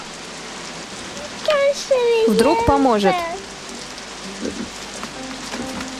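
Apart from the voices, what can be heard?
rain falling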